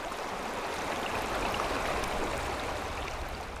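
flowing river water

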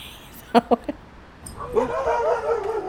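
guard dogs barking

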